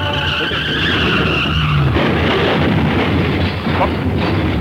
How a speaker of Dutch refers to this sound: Wat gebeurt er nou weer? Ja, er rijden twee auto's op elkaar. Ja, dat hoor ik ook.